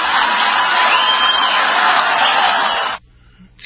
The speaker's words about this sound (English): Okay, a lot of applause and not a lot of chance that that will happen.